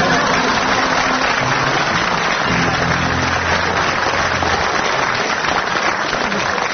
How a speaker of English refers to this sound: you have to agree that they got the greatest applause on that one.